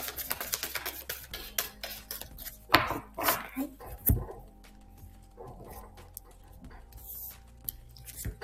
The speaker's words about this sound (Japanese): 椅子がギシギシ立ってます。オイルが必要ですね。